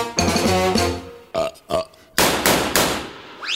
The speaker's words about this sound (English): Wyatt Earp, he makes me burp. I guess he ran out of gas.